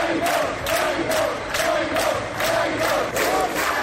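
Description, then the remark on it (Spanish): A crowd of protesters, supporters of Puigdemont's party, shouts in unison outside the Esquerra party headquarters, chanting that Junqueras should rot in jail: a loud rhythmic chant with roughly two beats per second and raised voices blending into a steady roar throughout. “Han llegado incluso a gritar que Junqueras se pudra en la cárcel.”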